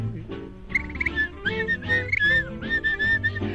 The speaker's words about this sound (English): love to whistle, 'cause it makes me merry, makes me feel so very.